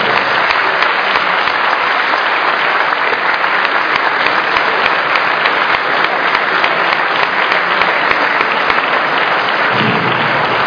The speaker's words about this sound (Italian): Ecco, prima di concludere vorrei dare qui davvero chi mi ha assistito e mi ha portato avanti sull'organizzazione in maniera precisa e puntuale per la Second Division dell'emergenza, comandante di Roma Alessandro Paola, e mi dovete fare un applauso.